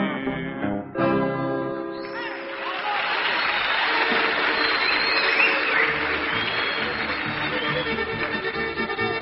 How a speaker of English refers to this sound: Thank you just a whole lot, folks, for that nice applause. Hope you enjoyed the song.